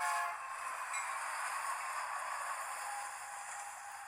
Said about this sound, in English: Eh. Oh, yes. Choo-choo train.